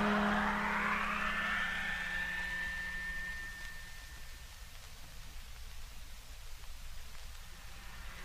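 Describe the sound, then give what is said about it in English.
A truck motor runs steadily while driving, a continuous rumbling roar with a high whine that rises early on and then fades, leaving a broad, noisy drone that continues to the end. “I'll lead, but Lemmy, you keep your truck close behind. We'll stay on the lowest possible level all the way. Yes, Jet. Motor on.”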